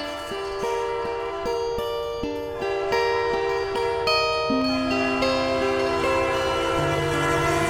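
A train horn blares loudly and continuously, its chord shifting in pitch, over a steady rhythmic clatter of wheels on the rails as the train passes.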